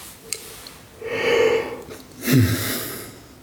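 yawning

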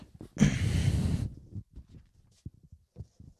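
sneeze

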